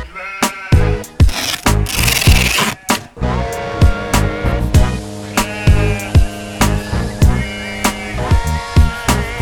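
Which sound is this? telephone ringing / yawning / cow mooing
cow mooing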